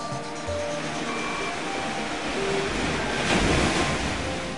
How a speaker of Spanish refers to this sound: ¿Qué son las olas? Son movimientos ondulatorios producidos generalmente por la fricción que ejerce el viento sobre la superficie del agua.